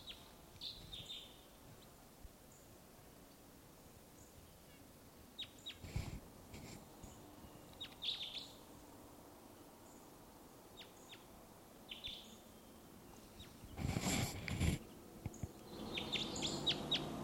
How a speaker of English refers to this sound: wild bird here.